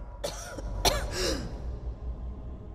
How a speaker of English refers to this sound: a woman coughing up blood.